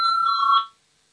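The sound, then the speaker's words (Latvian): A bright electric parliamentary voting bell rings steadily for just over half a second, with a sharp metallic ring, then cuts off into silence, calling members to vote on a proposal. No voices are heard. “Lūdzu zvanu, balsosim par otro finanšu ministra Reira priekšlikumu.”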